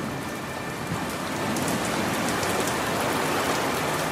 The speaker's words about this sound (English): The rain comes down over Omi.